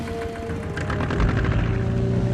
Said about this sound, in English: With a sullen glare, Rambo fires up the boat's motor and adjusts the tiller.